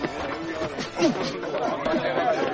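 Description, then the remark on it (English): A crowd cheering at a boxing booth in a tent at a fair as two men fight: a dense, steady roar of many overlapping voices that swells slightly midway and holds at a fairly loud level throughout. “Two men beating bedlam out of each other and a crowd cheering.”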